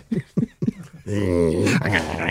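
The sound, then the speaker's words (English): An old three-legged Alsatian dog, stalking upstairs, gives three short, low huffing bursts followed by a long, sustained throaty growl that wavers in pitch, loud and steady, with no talking over it. “Keeps growling at him. He keeps growling. It's an old three-legged Alsatian stalking upstairs.”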